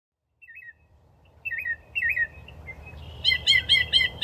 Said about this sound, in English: The state bird of Florida has been the same since 1927, the northern mockingbird, the bird you're hearing right now.